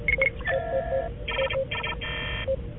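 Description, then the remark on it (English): A rapid run of telephone keypad dialing tones, several short and a few longer electronic two-tone beeps in an uneven rhythm, fairly loud over a steady low hum, with no talking. “Sorry, worked out the wrong keys.”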